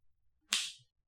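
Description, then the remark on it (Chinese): A single sharp whip crack, made as a whip is used on a stray dog, snaps out of near silence, a bright, loud burst that rings briefly before fading quickly. “哈，这是我老公在用鞭子教训野狗呢。”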